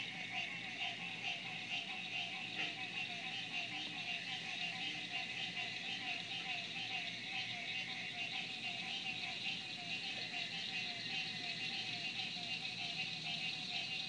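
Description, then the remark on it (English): A steady, dense chorus of crickets chirping continuously, with a lower pulsing call woven through it, like a night field full of insects. “And so you hear the crickets underneath them.”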